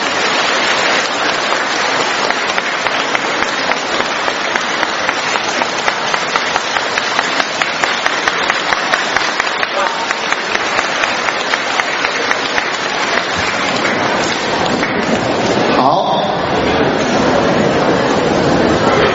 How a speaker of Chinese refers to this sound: 现在尊敬的卢军红台长将为我们当场看图腾解答问题，让我们用热烈的掌声恭请大慈大悲的卢军红台长。